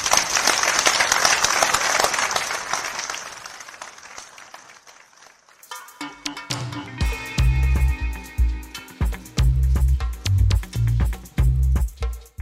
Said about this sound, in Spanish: Así hablaba … este miércoles en la ciudad de Paysandú, un acto con mucha gente, con mucho aplauso también.